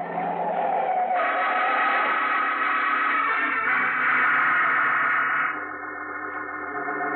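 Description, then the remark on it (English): A car's tires screech in one long, harsh, sustained skid lasting several seconds as the car bears down on a man crossing the street on New Year's, loud, easing slightly toward the end, with no voices over it and a thin, old-radio sound quality. “Hey, mister, look out for that car! You're gonna get run down if you don't!”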